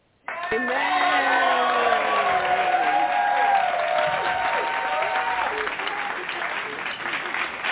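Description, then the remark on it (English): A crowd bursts into sustained applause and cheering, loud and steady for several seconds, with whoops and shouted voices rising over the dense clapping before it slowly thins. “To give a hand clap praise to our very own”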